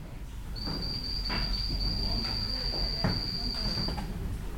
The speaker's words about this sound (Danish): Så kan du måske lige fornemme de høje lyde, som kommer fra frøerne, der bor side om side med finerne i drivhusene. Finerne siger jo ikke så meget, så det er altså kun frøerne og nogle gæster, der forstyrrer stilheden i alt det grønne.